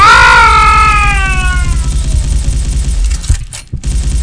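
A loud, high squeal that slides downward in pitch over about a second and a half, like a video game character dying after being shot in the head in a game demo, followed by rumbling gunfire-like noise and a couple of sharp breaks.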